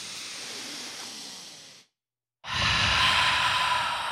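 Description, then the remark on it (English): A group draws a long, airy breath in, holds for a brief silent moment, then lets it out in a louder, fuller, whooshing exhale like a collective sigh. No talking. “So this week, I'd like to start out if all of us could just take a nice, long breath.”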